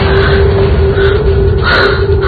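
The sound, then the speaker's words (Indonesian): Shaky, frightened breathing with quick gasping inhales and a few snorting breaths, low and unsteady, heard alone without any talking. “Suara lirih napasku menakutkan.”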